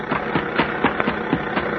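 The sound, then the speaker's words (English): A car engine runs steadily, its low rumble pulsing in a quick, even rhythm like an idling motor, with no voices over it. “Hey there! Stop that car, huh?”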